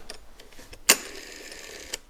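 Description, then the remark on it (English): The rotary dial of an Automatic Electric "Shirley Temple" telephone: a few faint ticks, then a sharp click and about a second of steady, soft buzzing whir from the governor that controls the dial's speed as it spins back, ending in another click. “What's that little bzzz? There's a governing motor in there, a little bit of a governor, so that you can speed up or slow down the dials.”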